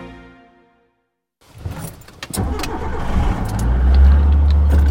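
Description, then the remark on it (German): After a faint fading tone and a brief silence, a car starts up in the middle of the night with clicks and rattles inside, then its engine settles into a steady rumble that grows louder as it drives into a forest toward a raised hunting stand. “Ja, also wir fahren jetzt zum Ansitz, wir fahren auf den krummen Busch und das ist eine Kanzel.”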